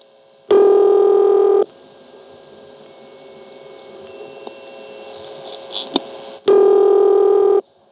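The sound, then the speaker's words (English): Cycling tones from a telephone exchange ringing machine in Cabot, post-1974: a loud, buzzy tone burst lasting about a second, a long stretch of faint line hiss and hum, then the same burst again, cycling over and over. “I need to point out something we hear constantly in Cabot, at least post-1974 we hear this, and it's a series of tones that cycle over and over, having to do with the ringing machine.”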